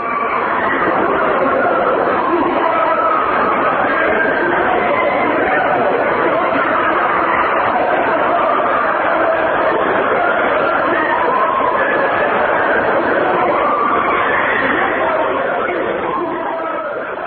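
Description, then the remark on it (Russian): A dense, unbroken roar like a huge crowd, with many indistinct voices of men and women crying out and wailing together, holding a steady, loud level for the whole stretch. “Звуки действительно напоминают гул толпы. Слышатся какие-то ужасные крики мужчин и женщин.”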